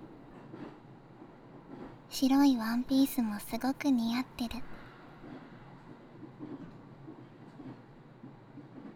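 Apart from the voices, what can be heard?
train running on rails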